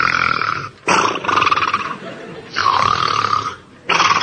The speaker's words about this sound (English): But Nanny's snoring kept him awake.